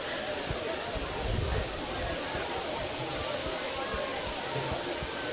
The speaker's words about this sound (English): Of course, it's pouring down rain.